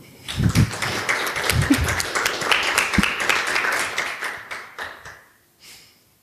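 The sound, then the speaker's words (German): A crowd applauds to welcome speaker Anne Roth, a dense patter of many hands clapping at steady loudness, thinning out over the last second and a half into a few scattered claps before falling quiet. “Ich möchte euch herzlich bitten mit einem Applaus für Anne Roth.”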